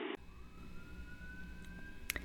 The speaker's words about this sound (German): Oh. Polizei. Ja, ich höre die Polizei bei dir.